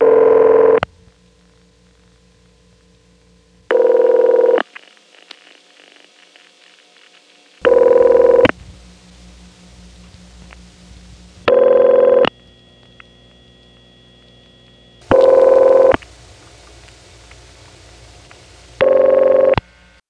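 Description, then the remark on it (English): A telephone ring tone of the Bell System PBX type: six short, steady buzzy bursts of about a second each, repeating every few seconds, with a low electrical hum in the gaps between them. “So with Bell System PBX rings, unlike any other type, there seems to be a wide variation, and I don't know whether there are one, two, or more official types of machines.”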